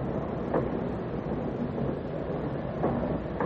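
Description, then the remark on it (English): A train with a sleeper car, a few minutes from Reading, rumbles steadily along the rails, a dense low roar with faint rhythmic clacks and brief higher squeals of wheels. No one speaks. “Come to the sleeper with me. Please. No. It'll only take a few minutes. We'll be in Reading in a few minutes.”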